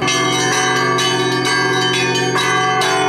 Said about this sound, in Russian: Полюбив церковный колокольный звон, русский народ соединил с ним все свои торжественные и печальные события. Поэтому православный колокольный звон служит не только указанием времени богослужения, но и выражением радости, грусти и торжества.